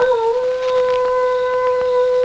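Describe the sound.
A Ranger imitates a wolf howl at night at Sharp's camp as a signal for Tonto to join him: one loud, sustained wavering note that dips slightly at the start, then holds steady for a couple of seconds, with faint clicks in the background.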